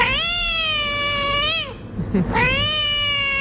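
A cat meows loudly in two long, drawn-out cries separated by a brief pause, the second rising back in at full strength.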